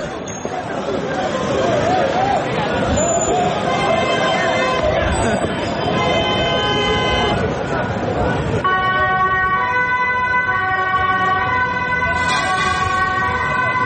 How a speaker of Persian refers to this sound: صدای آژیر اورژانس و پلیس و بازداشت‌های گسترده. اینها محتوای مشترک ویدیوهایی است که از بعد از ظهر روز پنجشنبه از شهر آمستردام، پایتخت هلند، در شبکه‌های اجتماعی